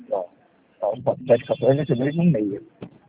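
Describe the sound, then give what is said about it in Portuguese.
A telephone rings with a thin, steady electronic tone lasting about a second, partly buried under a person talking. “Eu vou te chamar Telefone aqui. que fala? Ih, o seu telefone.”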